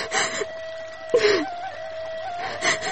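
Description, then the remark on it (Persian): A girl crying and whimpering, with breathy gasping sobs and one sharp, falling whimper midway, and no speech. “گریه نکو، کسی خواد دیدید خواد گفت که چرا گریه میکنه.”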